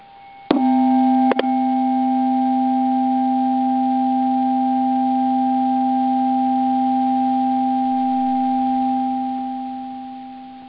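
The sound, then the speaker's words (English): A steady, sustained healing tone played over the phone, aimed at the sex organs, holds one mid-low pitch for about eight seconds after a couple of brief clicks at the start, then slowly fades away. No one speaks over it. “So bring your awareness to that particular area as this pitch speaks out.”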